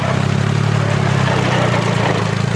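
A tractor engine runs steadily as tractor drivers fill their tanks and head into the fields: a low, loud, continuous diesel rumble with a chugging hum that holds an even level throughout, with no voices.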